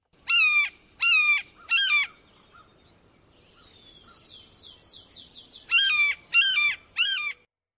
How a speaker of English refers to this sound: Blue jays are known for their imitation calls of the red-shouldered hawk.